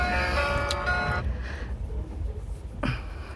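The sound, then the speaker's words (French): A mobile phone's electronic melodic ringtone chimes for about a second, then cuts off abruptly, followed by quiet room noise and a brief rustle. “Je réponds, sinon il va encore appeler chez moi.”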